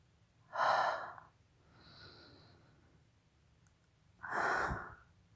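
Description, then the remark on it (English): Ragged, heavy breathing: two loud, rough breaths about four seconds apart, with a softer, breathy sound in between. No one speaks. “Your breathing's getting pretty ragged.”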